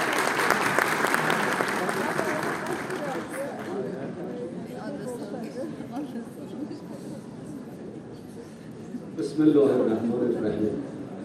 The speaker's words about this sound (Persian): یک بار دیگه تشویقشون بفرمایید.